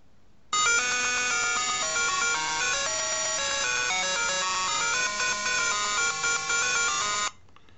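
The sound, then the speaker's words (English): A buzzy, synthesized laser-beam ringtone taken from an early-1980s video game plays continuously for about seven seconds, loud, with steady stepping notes and no voices, then cuts off abruptly. “From a game called Fairlight, released in the early 80s. Laserbeam.”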